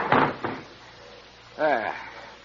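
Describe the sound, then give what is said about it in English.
A train compartment door on a train in France slides and shuts with a solid clunk followed by a lighter second knock, then a man's voice speaks briefly afterward. “And shut the door.”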